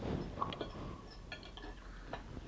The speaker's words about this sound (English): I can't do it cuz I'll start chopping some of this.